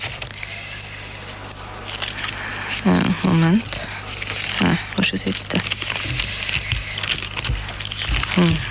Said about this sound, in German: Dann muss ich jetzt wieder schnell blättern.